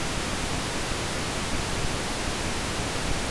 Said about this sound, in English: Here are three kinds of pink noise. First, a single monaural wave trace of pink noise sent equally to both left and right loudspeakers.